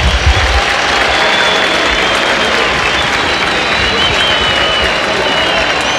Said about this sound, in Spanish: cambio en la U, se va Elías Rojas, escuchen los aplausos.